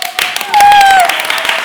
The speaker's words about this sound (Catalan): Huertos, com ho hem fet bé? Us ha agradat? Doncs pues vinga, aplaudiu!